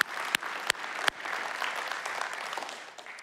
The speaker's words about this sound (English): All the sides and all the venues, guys. Big, big round of applause, big celebration. Fitch Brick, we love you guys. You guys rock. All right, let's hear it.